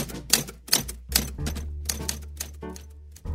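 Typewriter keys strike in a quick, uneven run, about nine sharp metallic clacks in three seconds over a steady low hum, with no voices.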